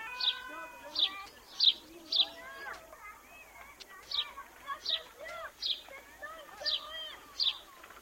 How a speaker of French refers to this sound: J'aime les oiseaux. Les moineaux. J'ai ramassé des miettes au restaurant pour les moineaux.